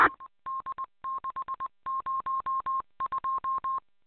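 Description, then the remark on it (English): A rapid series of telephone keypad dialing tones, short steady beeps grouped in bursts with brief pauses between, clear with no voices. “So anyway, let me grab this phone.”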